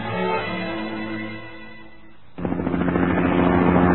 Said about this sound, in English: I heard the sound of helicopters. I could see them flying in the sky a couple blocks away from where I live.